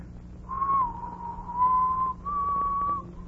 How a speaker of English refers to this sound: What's that you're whistling? Well, I guess you'd never know from the sound of it, but that's the wedding march.